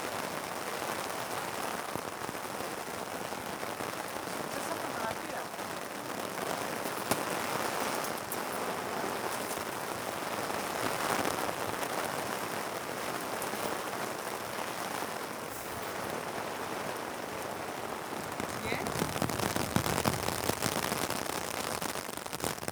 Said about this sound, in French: Il y a un orage terrible avec beaucoup de vent, beaucoup de pluie, et la pluie crépitait à travers les toits. Le vent était violent, il soufflait très fort.